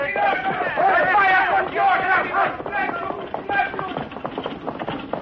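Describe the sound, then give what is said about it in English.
A horse-drawn buckboard wagon clip-clops off, its steady rhythmic hoofbeats growing more prominent as a crowd's overlapping voices and calls fade somewhat. “Not too fast with that buckboard”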